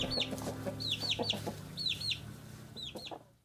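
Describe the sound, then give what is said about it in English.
A hen clucks in soft, steady pulses while shrill, rising peeps from her chicks chirp over her again and again, with no talking. “that concludes our little segment this week for International Respect for Chickens Month”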